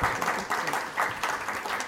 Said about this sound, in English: Can you join me in a round of applause